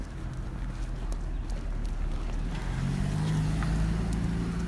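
A car's low engine rumble grows steadily louder over a few seconds, a droning hum with no one speaking.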